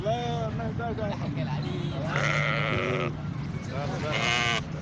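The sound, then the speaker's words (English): Several sheep bleat loudly, overlapping cries in bursts over a steady crowd murmur and background hum, at a roadside livestock market along main roads leading in and out of Khartoum, Sudan, where hundreds of sheep are gathered as families prepare for the Eid al-Adha feast. “Hundreds of heads of sheep could be seen along main roads leading in and out of Sudan's capital, Khartoum, Thursday, as family prepared for the Eid of Al-Adha feast.”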